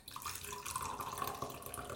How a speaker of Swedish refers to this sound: Nu ska jag bara hälla upp lite kaffe här. Det kanske hörs.